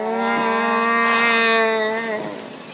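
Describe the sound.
A human voice imitates a dying deer with one long, drawn-out, bellowing cry. It holds a steady, buzzy pitch for over two seconds, then sags and fades at the end, with no other sounds.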